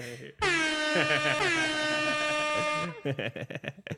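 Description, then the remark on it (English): A loud, sustained air horn blares for about two and a half seconds with a brief stutter partway through, then cuts off as people start talking and laughing. “I haven't done the air horn in a minute. Yes, got the air horn.”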